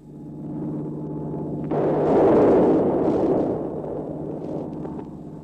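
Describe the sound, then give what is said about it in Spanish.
A steady droning engine of an Iberia Caravelle airliner is cut off by a sudden, loud crashing explosion as it hits a low hill near a village, swelling into a heavy, roaring rumble that slowly fades; 35 people die. No one speaks. “Los habitantes de la aldea de Blackdom se apercibieron de la explosión cuando el majestuoso carabel se estrelló contra una colina de escasa altura.”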